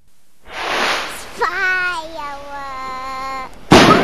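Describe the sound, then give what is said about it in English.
A big firework whooshes upward, going very high into the sky, and gives off a long, steady whistling tone before a sudden loud, clear bang bursts out at the very end. “Firework! That looks way high. Look, that's a big one. That went really high.”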